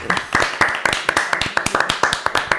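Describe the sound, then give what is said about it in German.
Applause from a small group, a quick run of sharp, crisp claps in a steady, slightly uneven rhythm that holds at a fairly even loudness throughout, with no voices. “nochmal einen extra Applaus.”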